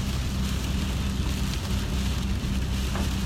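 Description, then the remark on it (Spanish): Heavy, steady rain patters on a car windshield, a dense, continuous crackle of drops over a low rumbling hum, with no talking. “No sé si escuchan las gotas de cayendo en el parabrisas, a ver.”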